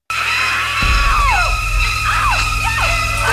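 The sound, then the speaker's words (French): A woman's loud, sustained scream over shrill, repeated stabbing violin strokes that swoop downward in sharp bursts, with a deep low rumble entering underneath partway through, from the iconic shower scene in the film Psycho. “c'était en effet la scène iconique de la douche dans Psychose.”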